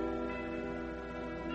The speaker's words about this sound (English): The temple bells are ringing